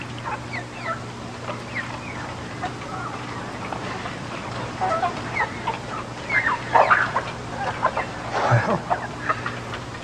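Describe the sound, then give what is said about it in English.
Chickens cluck in short, irregular bursts over a steady low hum, the calls growing louder and busier toward the end, with no one speaking. “I figure anybody that could make baseballs fly the way you did just might be able to make a chicken fly.”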